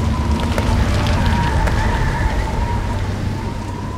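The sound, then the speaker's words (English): Steady rain hisses loudly throughout, with a deep rolling rumble of thunder underneath, fading slightly toward the end. No voices are heard. “And the thunder and the hail ceased, and the rain was not poured on the earth.”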